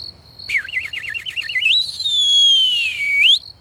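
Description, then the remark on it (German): A single soft whistled signal, a robbers' whistle given by three robbers at a window above: a quick warbling trill followed by a long, steady tone that slowly dips and then flicks upward at the end, heard alone without any talking. “Die drei Räuber haben oben am Fenster plötzlich einen leisligen Pfiff von sich gegeben.”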